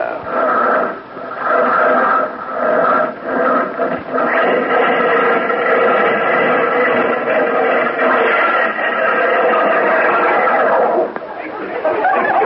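A Stutz Bearcat vintage car engine churns unevenly as it is hand-cranked while the start button is pushed, catches into a steady, buzzing drone with a rough hum, then abruptly cuts out and stalls just before the end.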